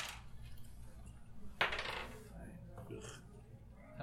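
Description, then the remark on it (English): Dice clatter onto a hard surface as they are rolled for initiative: one sharp bright impact followed by a brief rattling tumble, then a couple of fainter clicks, with no talking over a low steady background hum. “So go ahead and roll initiative.”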